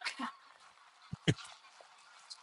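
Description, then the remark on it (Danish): A flock of about 20 geese honks as it flies overhead, scattered calls overlapping, with one sharper, louder honk partway through before the calls thin out again. “Ja, hold da, der flyver lige 20 over os lige nu.”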